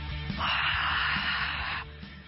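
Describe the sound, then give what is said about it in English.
A crowd at the Rio Olympic Games swimming arena draws in a sharp breath together, a broad airy hiss that swells and holds steadily for about a second and a half over a low rumble, then cuts off. “And they all breathe in at the same time.”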